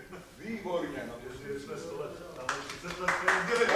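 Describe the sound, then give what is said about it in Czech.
A burst of applause breaks out partway through, a dense crackle of many hands clapping that grows louder toward the end, mixed with people talking. “Já děkuju za potlesk, ale napadlo to nejenom mě, ale i další asi 3 nebo 4 zastupitele z různých stran.”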